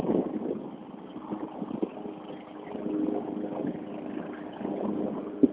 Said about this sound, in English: A lawnmower.